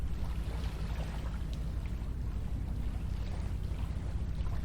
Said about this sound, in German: Ich weiß nicht, ob ihr es hören könnt, aber das Wasser plätschert, die Wellen, die winzig kleinen Wellen laufen hier am Ufer auf. Ja. Wir sind an einem der schönsten Orte Kölns, würde ich mal behaupten. Endlich, wir sind in Rodenkirchen angekommen.